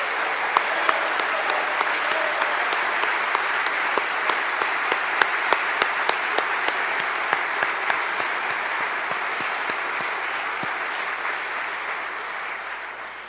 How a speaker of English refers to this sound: And I wanted to save this, but now I'd ask that all our military and veterans stand, and let's give them a round of applause for their current service going forward.